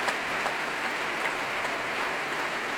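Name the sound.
concert audience applause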